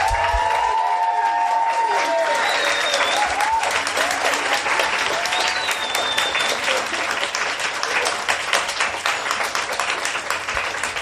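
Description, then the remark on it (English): A large audience bursts into sustained applause for the speakers at an event, dense clapping lasting about eleven seconds, with a few scattered whistles and cheers rising above the steady roar. “So before we go into that, can I just have another really large round of applause for all the speakers and also for you guys for turning up.”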